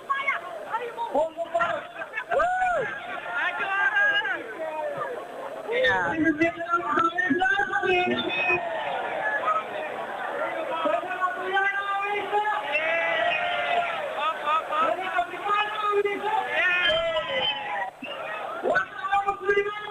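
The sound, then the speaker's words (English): Steady crowd chatter at a very busy food event where food is being sold: many overlapping voices blend into a busy, continuous babble, with occasional louder calls rising above the hum throughout. “Yes, dit is de crowd.”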